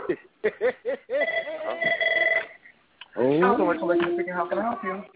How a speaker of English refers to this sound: Ooh. That phone keeps ringing at the most opportune time.